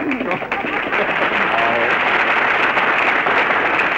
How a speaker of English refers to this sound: All right, folks, you made your applause. Now lie in it.